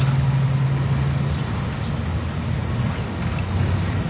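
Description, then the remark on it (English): A car engine hums steadily with a low, droning rumble and a wash of road or wind noise, continuous and fairly loud throughout, with no one speaking. “Car was coming.”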